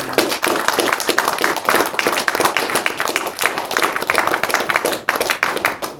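A crowd applauds steadily, many hands clapping in a dense, continuous patter that stays loud and even for several seconds before tapering slightly near the end.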